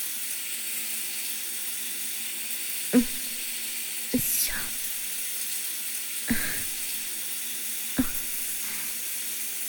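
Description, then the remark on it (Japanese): A shower runs in a steady, even hiss of falling water, broken four times by short splashy bursts as the spray rinses lotion off an arm while it is wiped away with the breasts. “シャワーで流しながらおっぱいを使ってローションを拭っていきます。”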